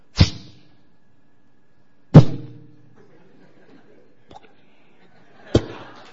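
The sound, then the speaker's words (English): Three sharp, loud impacts of an arrow striking, spaced a couple of seconds apart, as a head is cut off and falls to the ground. The first two ring briefly into a heavy thud, with a faint tap between the last two. “Ram would cut off one of his heads with an arrow.”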